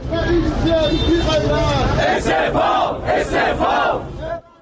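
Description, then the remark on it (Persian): A large protest crowd chants slogans in unison, including "Reza Shah, rest in peace" and slogans aimed at the whole regime, with loud rhythmic shouted phrases and rising and falling voices, sustained throughout before cutting off abruptly at the end. “در برخی از شهرها هم سر پیکان شعارهای اعتراضی به سمت تمامیت حکومت نشان رفت.”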